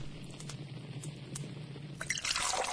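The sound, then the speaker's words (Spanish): Holy water splashing: a few scattered drips and small spatters, then a louder, hissing splash of liquid at the end, over a low steady hum with no voices. “Hijo mío, ¿qué haces con el agua bendita?”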